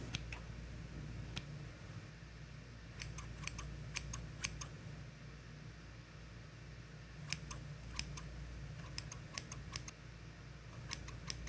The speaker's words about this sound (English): And let's start cutting. Get these scissors slicing away.